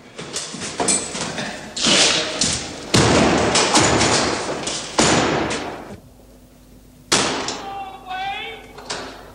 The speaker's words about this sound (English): Warders lock the cell doors.